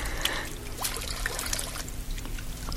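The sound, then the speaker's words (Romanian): Water pours steadily into a glass or cup for drinking, a continuous trickling splash with a few brighter drips, lasting a few seconds with no one talking. “Ce sete mi-era de apă asta. Mai dăm să beau.”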